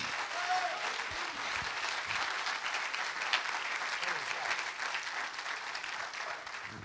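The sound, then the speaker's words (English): A crowd applauds steadily for about seven seconds after being asked to clap their hands if they love God, on Mother's Day: a dense, even wash of many hands clapping at once, with faint voices mixed underneath. “Clap your hands if you love God.”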